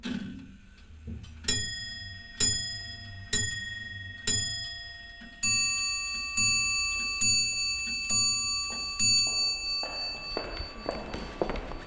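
A clock sounds alone: a steady series of sharp, ringing strikes about a second apart, each leaving a metallic tone hanging, with faster, busier ticking toward the end.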